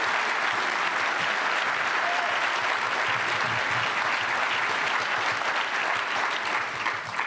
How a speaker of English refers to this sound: I actually have to clap for that one.